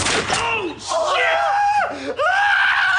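A man screams in pain after being shot, loud, with sustained wavering cries that rise and break, pausing briefly for ragged breaths before the anguished yelling resumes.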